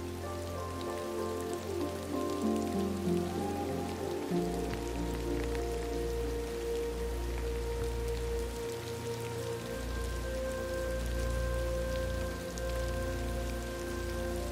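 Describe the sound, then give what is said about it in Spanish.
Steady rain patters softly on a surface, a continuous gentle hiss layered with low sustained tones, like calm background music, and no one speaks. “La lluvia se conecta a tu corazón, trayendo consigo recuerdos, momentos de tu vida que tal vez te han conmovido, te han dolido”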